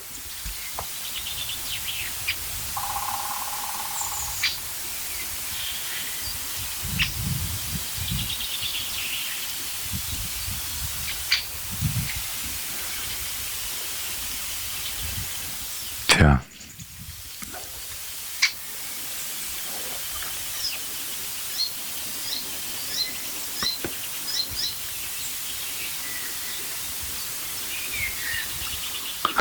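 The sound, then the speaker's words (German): Steady outdoor wind rushes through the whole recording, swelling into low gusty rumbles now and then, with faint scattered bird calls, including the rasping of a Eurasian jay and distant birdsong, and one sharp, brief noise burst partway through. “Ihr hört Windrauschen.”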